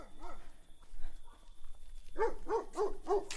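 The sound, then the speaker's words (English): Several sharp dog barks in quick succession from dogs behind a wall, loud and harmonic, following a couple of softer yelps and shuffling at the start, with a faint steady hiss underneath. “I'm between you and the dogs.”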